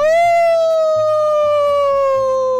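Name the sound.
person imitating a howl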